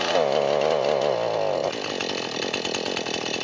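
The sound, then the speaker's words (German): A chainsaw runs loudly and steadily, its engine whining high at first, then dropping into a lower, choppier idle-like rattle partway through. “Wenn die Säge geht, werde ich dir das zeigen.”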